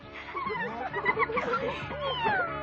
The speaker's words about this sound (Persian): وای، چه گربه نازی.